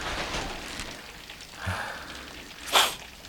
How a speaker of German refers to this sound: Sind wir schon mindestens 10 Meilen von Rocky Beach entfernt und jetzt fängt es noch an zu regnen. Furchtbar.